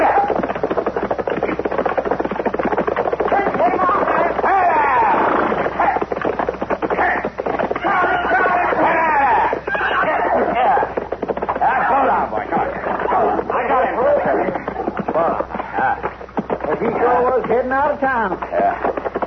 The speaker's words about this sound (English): Somebody sure riding up Front Street awful fast, ain't they? Yeah. That's a runaway horse, Chester. Come on, let's catch him.